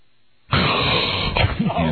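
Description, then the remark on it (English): A person with the mouth closed tries breathing through the nose: after a short silence, a loud, rough rush of breath through the nose starts abruptly and holds steady for over a second, breaking into a brief voiced, grunting strain near the end. “And try okay. breathing through your nose.”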